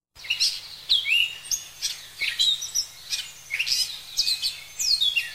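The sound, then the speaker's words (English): Birds chirp and twitter continuously on a warm spring day, a lively overlapping chorus of quick high calls and whistles, with a faint low hum in the background and no one speaking. “He hears birds chirping.”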